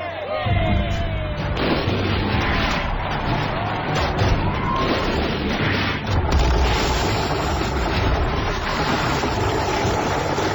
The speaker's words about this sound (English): Shells rained down onto the Triffids. Tremendous explosions sent fountains of green pulp high into the air.